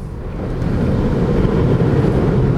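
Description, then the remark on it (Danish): A steady, loud rumble of churning, splashing water as an electric car pushes forward through a giant puddle roughly half a meter deep, throwing a cascade of water up around the car; a continuous surging wash with no voices, lasting the whole stretch. “Og der stod der simpelthen en kaskade af vand op rundt omkring bilen, og den bevæger sig altså fremad.”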